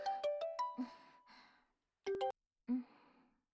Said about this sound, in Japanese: あ、やば、ママから電話だ。あ、ちょっとタイム、電話、電話だから。